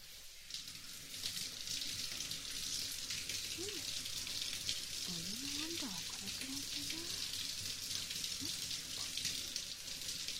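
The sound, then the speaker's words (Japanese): Steady hiss of shower water spraying and pouring over towels draped over a lying person's whole body, rinsing off lotion, continuous throughout, with faint murmuring voice sounds rising briefly underneath midway. “僕の全身にタオルをかぶせて、その上からシャワーかけていきまちからね。”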